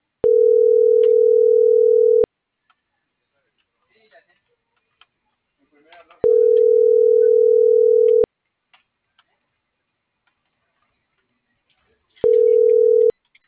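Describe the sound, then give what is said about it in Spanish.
Ringing tones from a mobile phone call before it is transferred to voicemail: three loud, steady two-second beeps separated by roughly four-second pauses, the last cut short, with faint clicks and rustles in the gaps. “Tu llamada está siendo transferida y se cobrará al terminar los tonos siguientes.”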